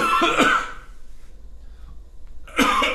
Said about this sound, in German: Wir überspielen diesen Hustanfall mit leichter Musik.